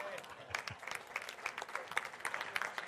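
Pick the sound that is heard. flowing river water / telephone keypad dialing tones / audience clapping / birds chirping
audience clapping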